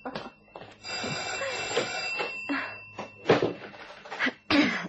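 An old-fashioned telephone rings steadily throughout, its bell tone sustained under a series of abrupt, breathy bursts and shuffling noises.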